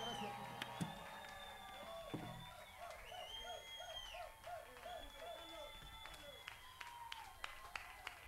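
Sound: audience applause and cheering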